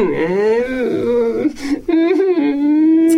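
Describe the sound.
A voice imitates a child crying, with wavering, whimpering sobs that rise and fall in pitch, broken by a couple of short catches of breath, fairly loud.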